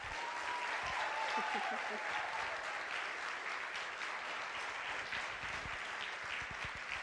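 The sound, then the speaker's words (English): Sustained audience applause, a dense steady patter of many hands clapping at even loudness for several seconds, with some faint voices mixed in underneath. “I think one more round of applause.”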